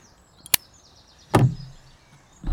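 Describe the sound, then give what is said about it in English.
A misaligned drawer that does not slide properly is worked roughly, with three hard wooden clunks and a thin scraping squeal between them, the middle knock heaviest and followed by a low rumble. No voices. “And it's noisy, too. I like the look of it, and it's nice in my mouth, but it's I don't know what's wrong with it. The drawer is not properly aligned or something.”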